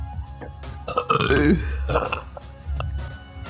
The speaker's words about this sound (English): And a burp. LaCroix was a bad idea. It's full of burps.